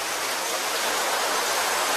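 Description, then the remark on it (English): A steady, dense rush of ocean surf at the end of a song, a continuous hissing wash of water with no distinct breaks between waves and no voices. “The end of that song used to bother me, but now it's summer, so the sound of the ocean is kind of cool.”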